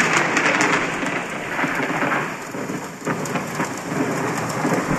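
Steady, dense rain pours down with a low rumble of thunder rolling underneath, a continuous, enveloping storm sound with no voices, loud throughout; a recording of rain with a thunderstorm used as a sleep sound.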